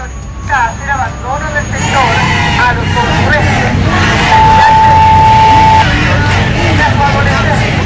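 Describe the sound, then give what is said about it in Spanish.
Heavy Carabineros police vehicles, a water cannon truck and a tear gas truck, rumble loudly through a noisy street crowd with shouting and babble in Santiago, Chile, as police move to clear people occupying a public road; a steady horn-like tone sounds midway. “Y por eso llegó el carro lanzagua y el carro lanzagas.”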